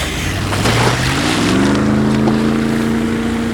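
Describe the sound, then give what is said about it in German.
A motorboat engine drones steadily over open water on a run of a few minutes to a white yacht, its pitch rising and settling as it is throttled down, with wash and wind noise underneath. Fairly loud, no voices. “Nach wenigen Minuten hatten sie die weiße Yacht erreicht. Justus drosselte den Motor”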